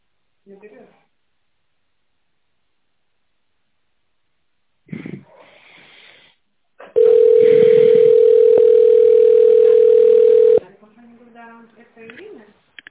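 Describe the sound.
A loud, steady single-pitched telephone line tone holds for nearly four seconds while a call to a company line waits for an answer, with short bursts of speech, including an automated prompt to dial an extension or wait, before and after it.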